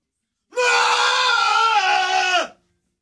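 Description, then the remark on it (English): A person lets out one loud, sustained scream lasting about two seconds, holding a steady pitch before it drops sharply and cuts off. “Do I scream?”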